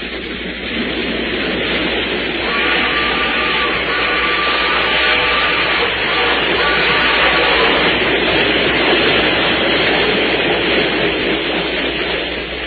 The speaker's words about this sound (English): Yeah, that's again. That's it again, Sheriff. That train is coming again.